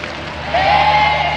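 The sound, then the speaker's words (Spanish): A large crowd awaiting Pope Benedict XVI at the World Youth Day vigil at Cuatro Vientos on Saturday, 20 August cheers and applauds in a dense, steady roar, swelling slightly halfway through as a single rising whistle or shout cuts above the noise. “Y lo que estamos escuchando son los momentos de expectativa de aquel sábado 20 de agosto en preparación a la vigilia en Cuatro Vientos en el ámbito de la Jornada Mundial de la Juventud.”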